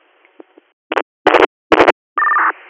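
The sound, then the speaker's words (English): Short crackly radio bursts in quick succession, ending in a brief steady electronic tone, like dispatch alert tones sent over a radio channel. No one speaks. “Would you like another set of tones?”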